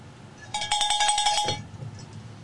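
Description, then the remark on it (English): A cowbell clanks in a quick flurry of about a dozen rapid strikes over roughly a second, bright and metallic with a ringing tone, then stops abruptly. “That gets you a cowbell.”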